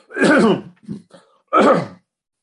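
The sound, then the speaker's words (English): A person clears their throat: a rough, gravelly rasp, a short grunt, then a second forceful clearing, with no talking. “Just have to clear my throat every now and then, nothing serious.”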